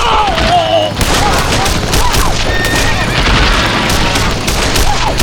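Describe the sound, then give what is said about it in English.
A rapid, continuous barrage of gunshots crackles through a gunfight, loud and dense with overlapping bangs and booms, while shouting voices and whistling tones rise and fall beneath the firing. “6-4 apparently seemed mighty good odds to the talkative one, because he canted the muzzle of his six-gun downward slightly, and Smoke Jensen shot him through the chest before his hammer could fall.”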